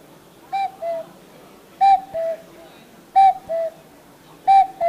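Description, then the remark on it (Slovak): A person imitates a cuckoo call as a guessing riddle for listeners, whistling or hooting a falling two-note "cu-coo" about four times at a steady, unhurried pace. The voice is clear, with no talking. “Takže nie všetky deti vedia, že je to naozaj kukučka.”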